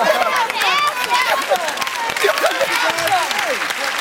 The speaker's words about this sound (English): All the cheering with the good answer in the background.